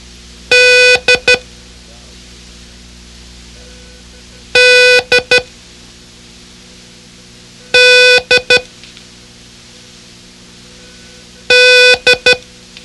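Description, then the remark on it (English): Code signal beeps: a steady, mid-pitched buzzy tone sounding one long beep then two quick short ones, the pattern repeated four times with pauses between, no talking. “Concentrate on the poor puppy's expression of dismay and repeat, "Dog did it," as I sound the code.”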